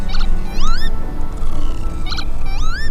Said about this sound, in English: It's hard to believe that lapwing, or the pillabeen, was once declared Ireland's national bird, as few now would recognise its distinctive look or call.